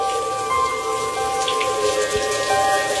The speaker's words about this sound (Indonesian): Sampai siang itu hujan turun sangat deras. Hujan angin. Aku sebal kalau udah hujan kayak begini. Pasti nanti banjir dan macet.